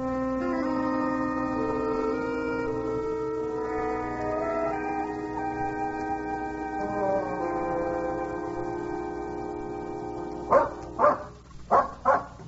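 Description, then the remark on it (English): A dog that is leading people somewhere gives four sharp barks in quick succession near the end, after a long stretch of sustained droning tones with no barking. “That dog is definitely leading us somewhere.”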